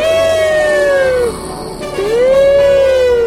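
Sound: ambulance siren sound effect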